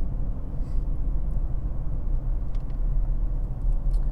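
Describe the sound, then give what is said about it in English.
An all-wheel-drive Porsche Panamera drives through a corner, its engine and tyres giving a steady, low rumble that holds evenly for a few seconds, with no one speaking. “So the front all-wheel drive is much more pronounced on this car, the Panamera.”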